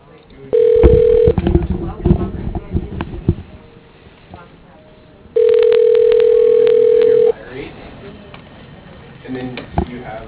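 A phone line rings out with two steady, mid-pitched ringback tones, a short one and then a longer one, separated by a pause filled with faint murmuring and rustling.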